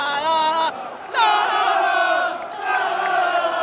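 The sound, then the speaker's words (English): A huge football stadium crowd roars loudly in a sustained, tuneful swell of voices, dipping briefly after the first half-second before surging back and holding strong to the end. “The atmosphere in this stadium is absolutely bonkers.”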